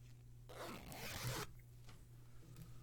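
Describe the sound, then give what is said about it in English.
A single steady zipper pull on a dress being zipped up, lasting about a second and fairly quiet, set against a low background hum with no one speaking. “Zip me up.”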